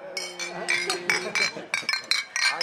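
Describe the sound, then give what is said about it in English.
Glasses clink together as a group toasts with their first drink at the Shackleton bar, a quick run of bright, ringing chimes tapping out at irregular intervals, with a low murmur of people talking underneath. “And toast each other with our first drink.”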